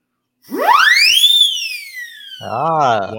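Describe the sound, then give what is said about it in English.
An Acme Cyclone siren whistle, a professional percussion instrument once sold through the Ludwig, Leedy and Slingerland catalogs, whoops sharply upward in pitch, then slowly winds back down in a long wailing glide, followed by a brief wavering voice reacting. “This is a Acme Cyclone.”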